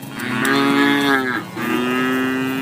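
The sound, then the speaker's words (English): A dairy cow on a Missouri dairy farm moos loudly in two long, low, droning calls with a brief break between them, the second steady and slightly higher. No one speaks. “You've heard our open themes with listeners talking about their vocations. Missouri dairy farmers, love issues, etc.”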